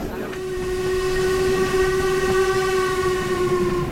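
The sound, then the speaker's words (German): A steam locomotive's whistle blows long and steady over the heavy rumble and rattle of a train crossing a viaduct in a right-hand curve, on the way to Fort William, loud and sustained throughout, with no talking. “Die Dampflok legt sich über der Brücke in eine Rechtskurve.”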